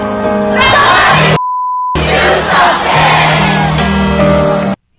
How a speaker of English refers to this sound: Maybe somebody will hear us if we all yell together and say, somebody do something. Ready? Here we go.